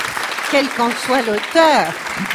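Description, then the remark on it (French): An audience applauds steadily, with a dense wash of clapping throughout and a few voices calling out and cheering over it, one rising then sliding down near the end. “Bon, c'est un beau texte, je trouve qu'on peut l'applaudir.”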